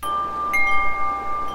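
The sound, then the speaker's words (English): Video game chimes ring out as steady, sustained tones, with a second higher note joining partway through, all over a soft, windy-sounding background hiss. No one speaks. “Little bit of chimes there.”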